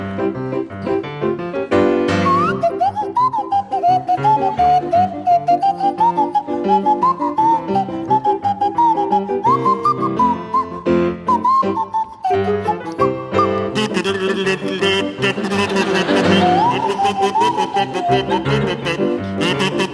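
Barry Cryer on a kazoo and Graham Garden on a Swanee whistle play a bouncy tune together. The whistle swoops and glides in its melody line over the buzzy kazoo, with loud, continuous playing and faint piano accompaniment.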